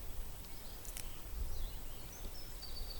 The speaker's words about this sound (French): Je vous laisse profiter encore un petit peu du bruit des oiseaux.